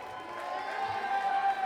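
A live audience at a concert cheers and whoops for a band member in a steady, dense roar of many voices, holding at a fairly even level throughout with sustained tones running beneath the noise.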